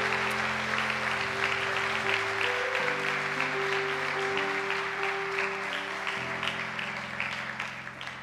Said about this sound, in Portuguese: Aplauda Jesus, aplauda Jesus!